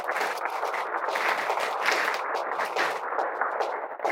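A crowd applauds steadily, a dense crackle of many hands clapping at once that holds an even, fairly loud level for about four seconds without any voices on top.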